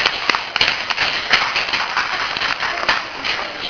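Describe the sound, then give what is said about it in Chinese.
A group claps hands steadily for a few seconds, a dense patter of overlapping claps with sharper individual slaps standing out, fairly loud and even throughout, with no talking. “啊，给他拍手一下”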